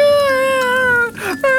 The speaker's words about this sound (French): Mais arrête de chialer, toi.